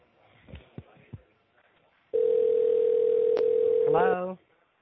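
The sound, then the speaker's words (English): A steady, unbroken ringing tone sounds loudly for about two seconds on a phone line during a customer service call, preceded by a few faint clicks and taps, and cut off as a brief voice-like sound comes in. “So I'm receiving some ringing voice from your end.”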